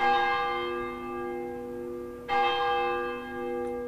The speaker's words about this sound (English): the upstairs of the church, a young boy pulls on a rope to make the church bell ring. Inside, the sound's drowned out by the organist, who's practicing the day's hymns, but outside, the bell rings clear, signaling that the service is about to begin.